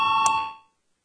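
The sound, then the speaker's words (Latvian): A short electronic bell or chime tone rings out clearly in parliament, calling a vote on declaring amendments to the medical treatment law urgent. It is sustained with steady harmonic bands, then decays to silence within about half a second, with no talk over it. “Lūdzu zvanu balsosim par likumprojekta grozījumu ārstniecības likumā atzīšanu par steidzamu.”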